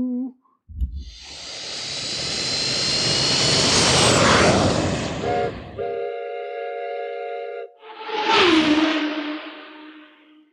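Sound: airplane engine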